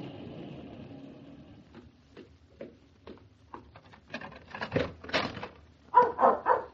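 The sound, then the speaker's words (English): A dog, Bluffo, whimpers and whines softly at first, then breaks into a run of loud, excited barks that grow stronger toward the end as it greets its owner arriving home. “Hey, down. Bluffo. You sound glad I'm home, old boy.”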